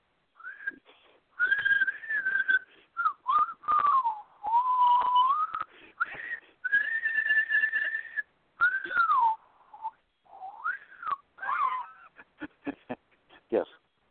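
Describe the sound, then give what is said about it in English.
A person whistles the theme tune of the TV show MASH, a slow, wavering tune holding long notes and sliding between pitches, with a few quick breathy chirps near the end and no talking. “I will research that momentarily while you whistle the theme of MASH while I search.”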